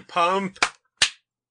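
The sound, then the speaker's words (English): A brief voiced sound from a person, followed after a short pause by a single soft hand clap, a quick sharp slap that fades fast into silence. “One very soft clap.”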